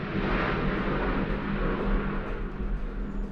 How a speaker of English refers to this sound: Talking over, there's an aeroplane.